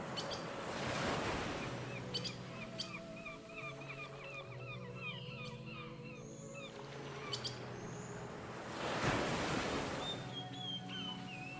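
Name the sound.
calm ocean waves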